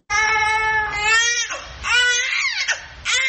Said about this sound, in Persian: گزارش امید مرزبان در این مورد با صدای یک نوزاد آغاز میشه.